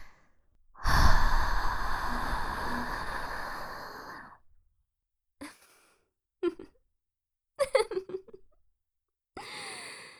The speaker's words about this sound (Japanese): 二人がかりでふーってして熱を冷ましてあげているのに、 左右から耳舐めされて、 どんどん熱くなって ぐにゃぐにゃになって 、もう収まらないですね。